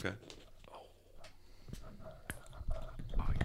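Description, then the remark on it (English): Several sharp metallic clicks and pops of drink cans being cracked open, spread unevenly over a few seconds, with soft murmuring voices and faint rustling underneath. “Crack them into your mic so everyone can hear the fun, satisfying sound.”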